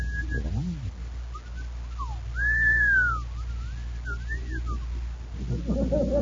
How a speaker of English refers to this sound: What's the matter, boys? Your whistle stuck?